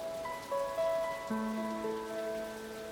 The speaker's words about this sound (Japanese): 雨音が強まる。